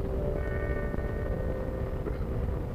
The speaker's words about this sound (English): Look, they are going into play now. There is the bell.